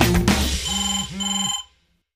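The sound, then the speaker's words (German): A mobile phone ringtone signals an incoming call, two electronic ringing bursts with steady high tones and warbling pulses, loud, then cuts off abruptly into silence. “Ah, da blinkt der Felix auf meinem Handy.”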